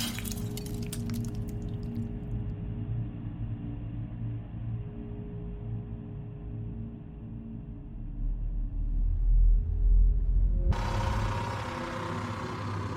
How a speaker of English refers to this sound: I examined my reflection in the jagged remains of the mirror, observed the emptiness of the bedroom behind me. Then, compelled by a cold, invisible force, my face cracked against the broken glass.